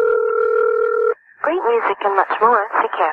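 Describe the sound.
A steady electronic telephone tone holds for about a second as the number of radio station CKFH is dialed, then cuts off as lively voices take over.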